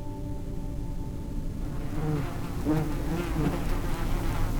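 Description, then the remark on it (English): A dense, steady drone of insects buzzing, a swarm-like hum filling the space with no pauses and no voices. “Buzzing in my head, all around me, creeping in, filling my skull, crawling into my teeth, sticky little insect feet all over my face, feelers probing at my lips.”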